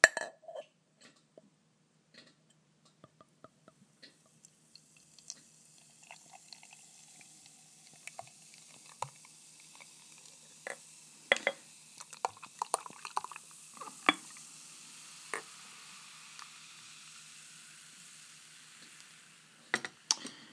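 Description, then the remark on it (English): Gardner's Tipple beer being poured into a glass after opening: a soft, steady fizzing hiss builds after a few seconds, dotted with small pops and crackles as the foam rises, with no talking. “Pour it now.”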